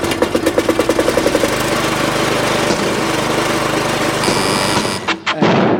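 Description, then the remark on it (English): A car engine runs loudly as a car arrives in the afternoon, starting with a rapid chugging rhythm that settles into a steady rumbling drone, then briefly cuts and revs again near the end. “It's not a lawnmower. It is, in fact, Colin arriving in his car this afternoon”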